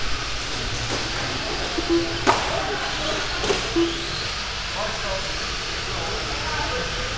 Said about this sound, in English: Yeah, that dunk, dunk. Those are cars driving over the lap counter.